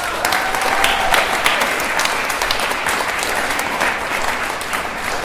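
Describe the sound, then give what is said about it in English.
A crowd of people who worked on an American eel project in the Hudson River watershed applauds themselves steadily for several seconds, a dense wash of many hands clapping at a fairly loud, even level from start to finish, with no voices standing out. “I want you to give yourselves a huge round of applause.”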